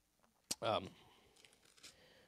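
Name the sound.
bible pages turning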